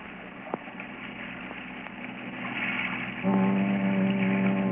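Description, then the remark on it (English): A motorboat engine drones over the open ocean at night, growing steadily louder as it approaches, its low throbbing hum becoming strong and steady near the end amid wind and sea noise. “It's a boat.”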